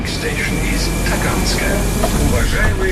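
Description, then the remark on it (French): Steady rumble of a Moscow metro carriage in motion, with indistinct passenger voices murmuring throughout and a faint high electrical whine running beneath the noise. “À Moscou, une campagne de sensibilisation a néanmoins fait son apparition récemment dans les wagons de métro.”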